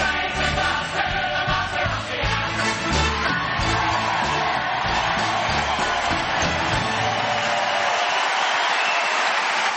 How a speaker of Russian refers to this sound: Такие аплодисменты прям жалко уводить. Да-да-да.